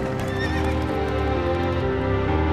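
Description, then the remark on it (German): Horse hooves clip-clop in a steady rhythm as a wagon rolls along under a continuous low rumble, with a brief high whinny rising over the hoofbeats. No one speaks. “Professor Van Helsing hat Pferde und einen Wagen gekauft.”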